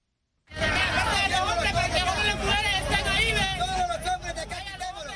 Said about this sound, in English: Sounds of a crowd of Central American migrants that has drawn the ire of U.S. President Trump. They were gathered at the border with Mexico and Guatemala.